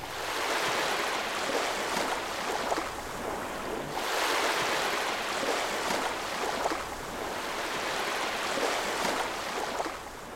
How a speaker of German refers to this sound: Wir tauchen ein in das Feld von Wasser und Wellen und ich bin dabei.